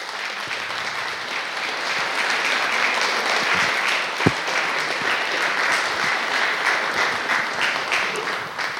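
An audience claps steadily for several seconds, a dense, even patter of many hands, with one sharper clap standing out midway and no voices over it, applauding the lead actor of a film.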